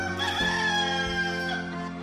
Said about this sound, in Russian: Петух. Опять этот проклятый петух. Сколько же можно будить меня в 5 утра уже осточертевшим кукареканьем?